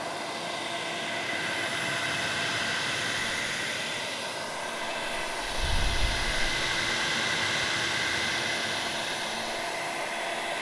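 hair dryer blowing

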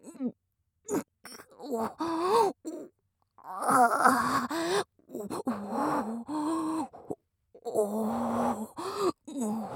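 yawn

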